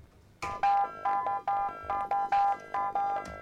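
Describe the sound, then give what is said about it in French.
Bright electronic beeps repeat in a quick, steady rhythm within a music track played on Radio Campus 88.3, each tone starting sharply and held briefly over a low, buzzing backdrop, loud and with no voices. “Ça fait des bips.”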